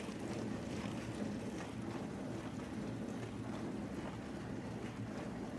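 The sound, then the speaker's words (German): A dishwasher runs on its 50-gram economy programme, slowly cooking vacuum-sealed salmon at a low, even temperature along with the other dishes, giving a steady, unbroken rush of sloshing water over a low droning hum, with no voices present. “Es handelt sich um eine Spülmaschine, die im 50-Gramm-Economy-Programm jetzt gerade den eingeschweißten Lachs zubereitet.”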